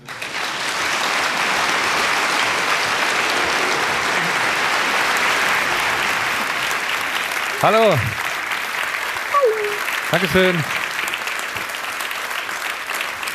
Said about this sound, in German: Insofern würde ich sagen, einen großen Applaus